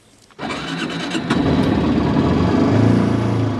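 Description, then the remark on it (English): The engine of a high-efficiency XPRIZE car, rated at just over 100 miles per gallon, cranks and catches after a brief quiet moment. It then settles into a loud, steady running rumble that swells slightly as it revs while the car is taken for a spin, with no talking. “Should we take it for a spin? Let's go.”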